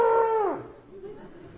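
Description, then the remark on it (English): A voice imitates an elephant's trumpet: a loud, brassy, sustained tone held for about half a second, then sliding down in pitch and trailing off into a faint low rumble. “Want to hear me do that again? I have two children. I've had to learn how to make a trumpet and sound.”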